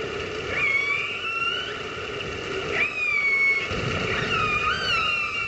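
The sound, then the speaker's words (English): Killer whales calling to each other underwater, recorded with a hydrophone and broadcast live on the radio station Orca FM, run by Vancouver Aquarium in Canada: a series of high, rising and falling whistles and squeals overlapping one another above a steady low rumble of water noise, with no voices. “No presenters, no music, just the sound of killer whales calling to each other.”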